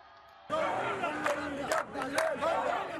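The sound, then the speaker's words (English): A large crowd of protesters in Khartoum, Sudan, chants slogans in unison against what they say is an army attempt to seize power. The chanting is loud and rhythmic, with many voices shouting together in rising and falling bursts after a brief quiet start. “Familiar slogans from the protests of 2018 and 2019 once again echo across Sudan.”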